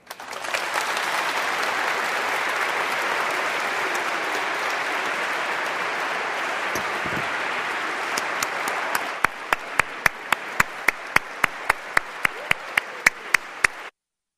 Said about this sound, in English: And so let us, I think, give them a little support by our applause.